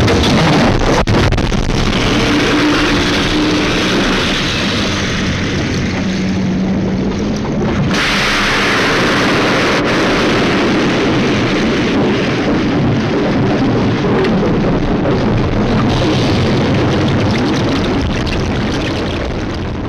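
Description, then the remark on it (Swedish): A Swedish submarine launching a wire-guided torpedo, steered toward its target through a thin wire: a loud, sustained rushing roar with heavy low rumble that surges and shifts partway through, then churns on steadily, with no voices. “Men när de skjuts iväg så låter det ungefär så här.”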